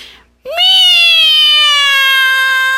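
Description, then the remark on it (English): After a brief quiet moment, a voice imitates a cat with one long, loud, drawn-out meow, sung as a serenade, a steady wavering note that holds for over two seconds. “So Cat began to sing.”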